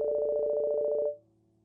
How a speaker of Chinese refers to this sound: 这时， 我的手机响了。